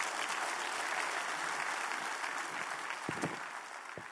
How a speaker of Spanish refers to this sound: Si Dios le habló, hermano, dele un aplauso a Él.